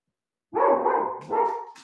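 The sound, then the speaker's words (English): A dog named Paisley barks twice in quick succession, loud, each bark a full, drawn-out woof with no voices around it. “You're a good watchdog.”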